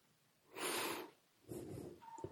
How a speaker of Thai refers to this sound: อากาศเข้าไปในห้องเหมือนลมหายใจเข้ามาสู่ในกายแล้วหายใจออก